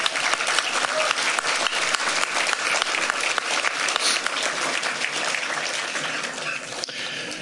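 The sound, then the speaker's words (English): An audience claps steadily for several seconds for a candidate being introduced, a dense, even wash of many hands with no voices standing out, holding loud throughout before easing slightly at the end. “Let's give Jared a good round of applause.”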